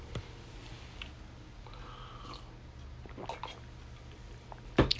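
Quiet handling of a water bottle, with soft plastic clicks and faint wet sipping and swallowing sounds, then a sharper knock near the end. Nobody speaks.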